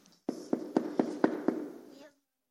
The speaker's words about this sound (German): Das war jetzt ich, aber damals war er das nicht. Er hat genau gehört, da klopft jemand.